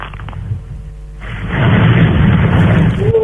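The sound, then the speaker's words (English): Storm waves batter a building and its top-floor windows: a low, rumbling murmur gives way to a sudden booming crash that swells into a loud, roaring wash of water and holds to the end. “It's the waves are actually battering the building and coming up onto your top floor windows.”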